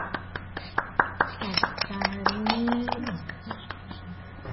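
A small group of children applauds a child who has just explained the card game Snap, with quick, uneven hand claps that continue throughout, briefly joined by a high voice calling out partway through.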